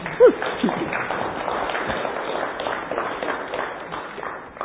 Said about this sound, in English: Oh, thank you. One clap.